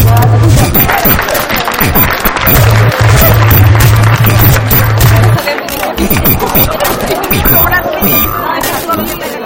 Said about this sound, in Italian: Casa, ecco gli applausi, è stato messo un tristone fuori.